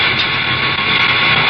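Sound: spaceship jet engines roaring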